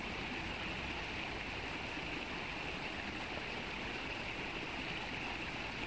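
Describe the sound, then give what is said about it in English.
A steady, dense roar of rushing water fills the scene without pause, like a raging, fast river churning, broad and constant with no voices. “isn't it nice to know you can throw everything and anything else that may be bothering you right now into the water so that it becomes part of that raging river around you?”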